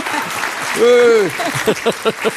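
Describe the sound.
An audience applauds in a steady wash of clapping to welcome a speaker coming up to give a greeting, with a long cheering voice swelling midway and a few short rhythmic vocal bursts near the end.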